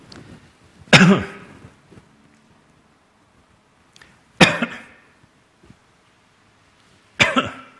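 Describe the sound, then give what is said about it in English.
Three loud, harsh coughs spaced a few seconds apart, each a sharp burst with a brief rasping tail, separated by near silence with faint low rumbling. “So it's not one continual cough. It is coughing at intervals.”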